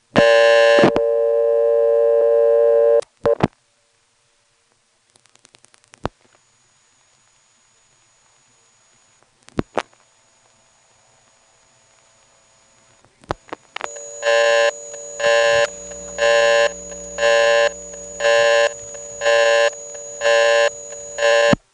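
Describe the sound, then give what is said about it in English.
A buzzy electrical hum on a phone line cuts off, followed by a few sharp, sparse rotary switch clicks over near silence, then a loud pulsing busy tone repeating in even beats. “Here's another example where the hum on the line and the rotary switch sound are not quite so prominent.”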